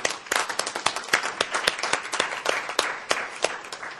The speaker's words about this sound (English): So if we could give her a round of applause for thanking her.